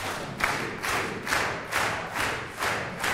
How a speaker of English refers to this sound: I want you to count from 1 to 8 and say stop out loud and do one clap per beat like this. 1, 2, 3, 4, 5, 6, 7, 8, stop.